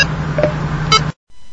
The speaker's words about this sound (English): So that brings us back to the original base menu of 1. I'm going to go up to 1. Now I'm back at 1. That was the low beep. Now I'll show it to you again.